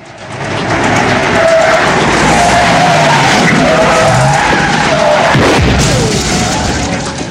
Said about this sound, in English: A view from the taxi roof as the vehicle zigzags between obstacles.